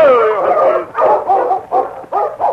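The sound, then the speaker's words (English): A dog named Happy barks and yelps excitedly at a deep hole in the hills, an old mine shaft, starting with a drawn-out whining bark followed by four or five shorter, loud barks in quick succession. “Where's the dog found Jimmy? What is it, Happy?”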